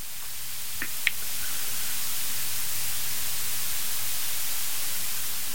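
A steady, loud rush of wind on a very windy day outdoors fills the whole stretch as an even, hissing roar, with a couple of brief clicks near the start and no voices.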